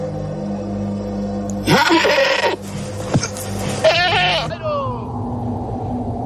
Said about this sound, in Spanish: ¿Qué es eso? Son los pastores llamando a las cabras. Ah, eran cabras, lo sí. Que sonaba, y que casi asusta.